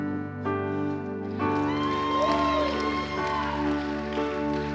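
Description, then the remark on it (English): An audience claps and cheers for the worship team over steady, sustained musical chords. The crowd noise swells after a moment into a dense wash of applause, with scattered whoops rising and falling. “It is absolutely okay to clap.”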